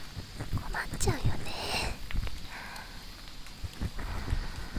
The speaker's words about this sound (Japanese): 降ってきた。今日花火あるのに大丈夫かな。空は明るいから多分すぐやむよね。この時期って急に雨降る。